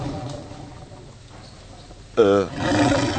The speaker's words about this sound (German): Hast du einen Tiger in der Küche? Nee, mein Magen, ich hab Hunger.